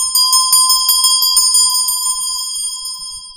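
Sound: tibetan ritual bell ringing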